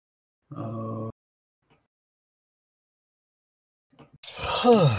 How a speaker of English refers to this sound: Oh, you can finally hear me when I freaking yawn?